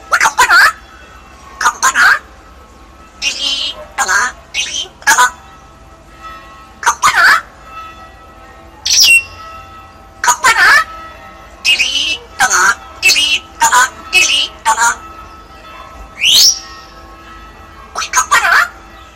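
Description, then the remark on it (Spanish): A talking pet bird chatters and squawks in a steady run of short, loud bursts, some sounding voice-like and some imitating ringing bells, with brief whistled squeaks between. “Estamos metiendo los sonidos para que la gente vaya viendo porque tiene buenas parrafarras, ¿eh?”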